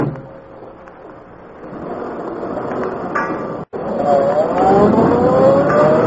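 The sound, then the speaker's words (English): A car engine drives steadily and fairly loud, briefly cutting out before returning with a rising, revving whine as the vehicle accelerates, following another car toward River Road. “they go to a car parked beyond rooming house”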